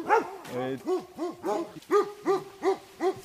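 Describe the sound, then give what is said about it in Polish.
A pack of guard dogs barks in quick succession, about nine sharp, overlapping barks in a steady, insistent rhythm, moderately loud; the dogs guard a fenced property in a forest. “To sfora psów pilnujących ogrodzonej posesji w lesie.”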